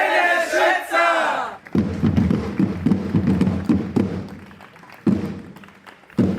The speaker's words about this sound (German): Ja, hier im Biergarten laufen gerade die Trommler von der Dollinger Realschule ein. Was ziemlich cool kommt. In ihren bunten Kostümen, sieht richtig cool aus. Ja, und die laufen jetzt ihre Runde und erfreuen uns.